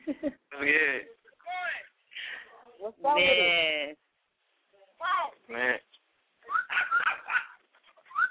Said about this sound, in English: I guess we got somebody's dog or something.